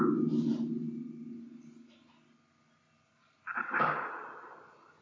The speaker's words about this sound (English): I heard a definitive knock. It sounded like a knock of a house.